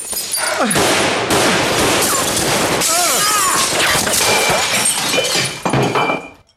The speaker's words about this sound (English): The brothers open fire, shattering the windows. Miles ducks behind the bar. Chandler dives across the pub and joins him.